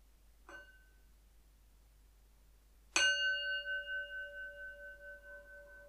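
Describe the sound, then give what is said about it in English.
A meditation bell is struck twice, first lightly and then firmly. The second strike rings out with a bright, sustained tone that slowly fades with a gentle wavering shimmer. “I'm going to start with a sound of the bell.”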